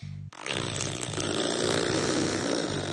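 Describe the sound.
A listener's voice imitates a red fox fart with a loud, sustained buzzing raspberry after a brief low hum, holding a steady low pitch with a rough, sputtering texture for about two and a half seconds.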